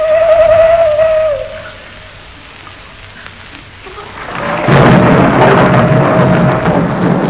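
thunderstorm with rain

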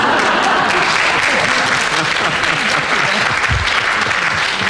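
studio audience clapping

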